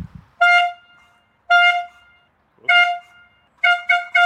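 A hand horn toots loudly and nearby in four bright, brassy blasts spaced about a second apart, the last one broken into quick stuttering honks, with no talking.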